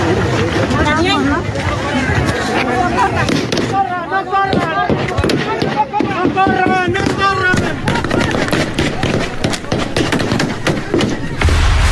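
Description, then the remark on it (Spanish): Rapid, irregular gunshots crack out again and again over a loud, chaotic crowd of protesters being dispersed by gunfire, attributed to alleged organized crime leaders known as El David and El Borrego, with shouting voices and commotion running underneath the sharp bursts throughout. “fueron dispersados por presuntos grupos criminales y fueron dispersados a balazos”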